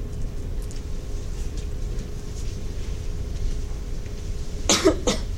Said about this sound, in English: Sorry, I have a cough.